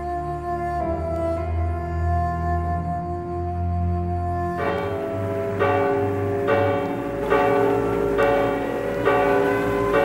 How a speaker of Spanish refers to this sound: la recreación que sobre el bombardeo de Guernica se hizo en este mismo programa en Graffiti